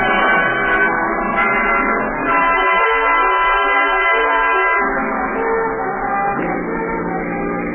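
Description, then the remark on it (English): Several car horns blare over one another in heavy traffic at night, a loud, continuous tangle of overlapping honks whose pitches shift every few seconds, with a low rumble of engines underneath and no voices. “The traffic's heavy tonight”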